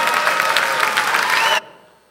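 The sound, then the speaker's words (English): A church audience claps together in dense, steady applause, loud and crackling for about a second and a half before cutting off abruptly into near silence. “So church, you should see that it's okay to raise our hands, to clap our hands.”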